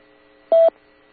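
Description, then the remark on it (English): A single short radio repeater beep: a steady, mid-pitched electronic tone lasting under a quarter second, loud against a faint constant hum, with no voices. “You didn't wait for the beeps.”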